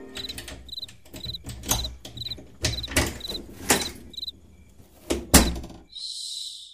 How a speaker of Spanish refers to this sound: Cierra suave la puerta, vos. Vas a despertar a los hipotes.